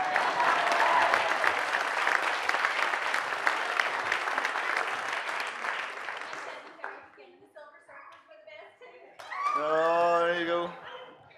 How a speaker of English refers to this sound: Big round of applause.